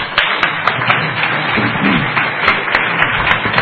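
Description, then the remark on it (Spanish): Sustained applause from an audience for a speaker, a dense wash of many hands clapping at once with a few sharper individual claps standing out, steady and fairly loud throughout with no voices. “Un aplauso, Maite.”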